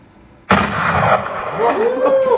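A single .44 Magnum gunshot: a sudden, loud, sharp crack out of near silence, followed by a long, rolling boom that lingers without fading for about two seconds.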